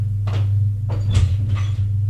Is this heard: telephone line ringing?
no